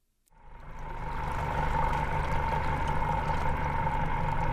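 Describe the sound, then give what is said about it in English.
A boat motor starts up and settles into a steady, loud drone with a low rumble and a humming midrange tone as the boat heads out on Apalachicola Bay, Florida, to an aquaculture oyster farm, running continuously without any voices. “are taking their boat out to their aquaculture oyster farm.”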